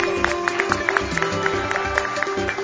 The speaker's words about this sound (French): Et nous sommes ici dans cette salle de la Fédération des entreprises du Congo, ici dans la ville de Kananga pour cette émission spéciale en direct de la belle ville de Kananga. Sous vos applaudissements bien sûr.